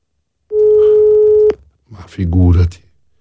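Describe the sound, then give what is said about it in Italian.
A single steady ringback tone from an outgoing call made on a mobile phone sounds for about a second, clear, then cuts off. A voice speaks briefly shortly after. “Ti stiamo chiamando? Dal mio cellulare.”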